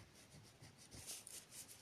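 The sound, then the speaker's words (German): A pen scratches across paper in a quick series of short, hissy strokes, soft and steady with a slightly uneven rhythm. No one speaks. “Also wie gesagt, diese dann schreibe ich jetzt einfach mal hin.”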